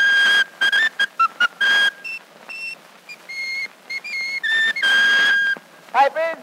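A newsboy whistles a lively tune, clear sustained notes hopping between pitches in short phrases, ending with a quick warbling trill, over a faint hiss of old recording noise.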